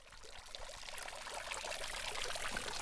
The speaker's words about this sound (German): Vor dem kleinen Rathaus, schräg gegenüber der Kirche, wo der Springbrunnen plätschert, taucht plötzlich doch noch eine Gruppe von Menschen auf.